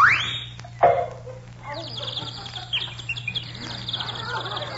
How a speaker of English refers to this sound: Do you hear that little bird singing